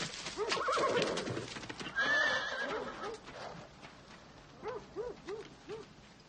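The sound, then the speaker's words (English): A horse whinnies loudly and repeatedly as a woman rides it past a house, hooves clopping along underneath, with a high rising squeal in the middle and shorter neighs toward the end. “Later outside, a woman rides a horse past the house.”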